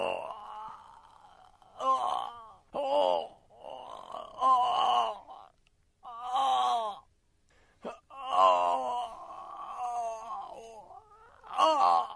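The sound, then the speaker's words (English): A scary sound effect from a Scary Sound CD: a man groans and moans repeatedly, a string of drawn-out, wavering vocal strains with short gaps between them, some rising into louder, strained bursts, with no speech. “All right, this is different than Screaming Dude Screaming. Groaning Man.”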